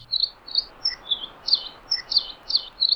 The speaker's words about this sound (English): we have the song of the Nihoa finch, which are endemic to Nihoa Island in the northwestern Hawaiian Islands